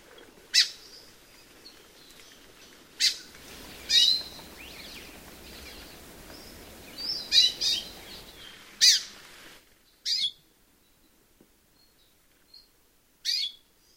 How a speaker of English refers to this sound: First, Amakihi. These samples have in common that raspy, squawky, buzzy quality.